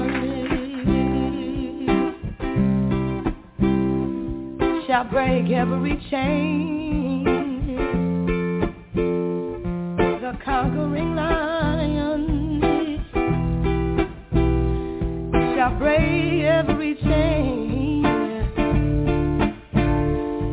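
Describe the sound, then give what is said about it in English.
A sung song with steady backing instrumentation plays loudly and continuously, the vocal line repeating a short chorus over a full, band-limited musical arrangement. “I'm gonna play that song again while I try to get him on the phone.”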